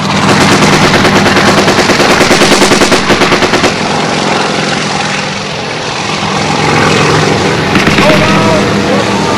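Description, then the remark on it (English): Rapid machine gun bursts rattle from a helicopter's gun opening up on a tree line at a landing zone, over a constant rotor and engine roar, loud, the fire dropping away partway through while the aircraft drone continues. “Our chopper's gun and opens up on the tree line.”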